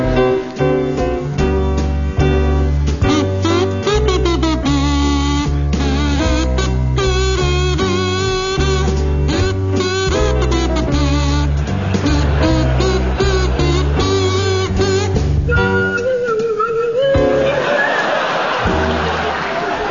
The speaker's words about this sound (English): Now, Tim and Stephen, your song is Ding Dong Merrily on High, and it's to feature Tim Brooke Taylor on kazoo and Stephen Fry on Swanee Whistle.